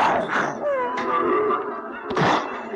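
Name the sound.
train crash sound effect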